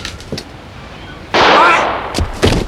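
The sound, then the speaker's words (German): A single loud gunshot cracks out and rings off for a moment as it shoots a revolver out of a person's hand, with a few smaller sharp knocks before and after it. “Er hat uns den Revolver aus der Hand geschossen.”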